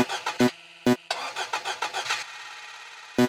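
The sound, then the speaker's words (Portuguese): A car engine cranks with a sputtering, stuttering turnover, catches, and settles into a steady idling hum, with a few heavy thumps punctuating it. “Porque meu carro só liga se você fazer chupeta.”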